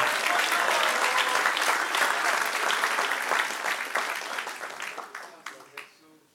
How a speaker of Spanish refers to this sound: Dale un aplauso al que reina. ¡Aleluya!